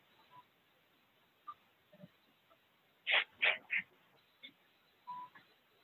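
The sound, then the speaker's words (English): A sneezing attack inside a Duane Reade drugstore: three sharp, explosive sneezes burst out in quick succession, loud, with softer scattered noises and faint murmurs before and after in an otherwise quiet space. “Got a sneezing attack.”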